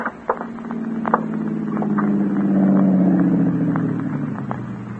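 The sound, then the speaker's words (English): A car engine drones steadily with a low rumbling hum that swells slightly in the middle, with scattered crunching and rattling clicks as the car drives along a narrow, dusty road leading up to a newly erected, almost completed dam. “the car along the narrow, dusty roadway leading up to the newly erected, almost completed dam.”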